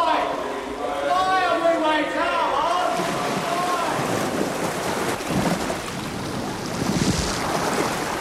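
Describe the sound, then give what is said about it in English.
Steady rushing wash of ocean waves and wind, loud, as if aboard a ship at sea, with a wavering tonal sound drifting over the first few seconds. “You're at sea”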